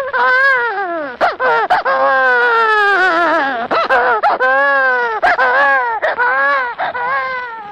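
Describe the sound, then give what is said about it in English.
An expert crier imitates a crying baby as a sound effect, weeping into the microphone in a studio, producing loud, continuous wailing sobs that rise and fall in pitch, broken by short gasping catches, with no other sounds. “Well, a baby cry is made by one of two ways. Either by having an expert crier weep into the mic and flood the studio with tears, like this.”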